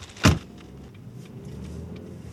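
A single sharp thud, like a car door shutting, is followed by a steady low engine rumble as a car sets off for Mass at Notre-Dame de la Paix, heard from inside the car and fairly quiet.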